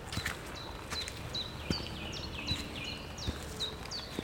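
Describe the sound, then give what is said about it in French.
Birds sing territorial calls at the end of the day, repeating quick descending whistled notes in a steady series over a faint background hiss with a few soft thuds. “Il y a aussi ces chants d'oiseaux qui semblent marquer leur territoire.”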